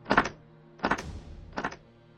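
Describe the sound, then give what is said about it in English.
Three dull knocks on a wooden wall, heard in response to a question during a ghost investigation, unevenly spaced, each a short hollow thump with a brief ring-out, the last slightly softer. No voices are heard. “I mean, it sounded just like someone knocking on one of the wooden walls.”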